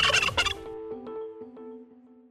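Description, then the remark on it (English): A turkey gobbles loudly, a rapid rattling burst in the first half-second that trails off into fading warbling, tonal calls. No one speaks. “The more birds you bring in, the more chances you have to win.”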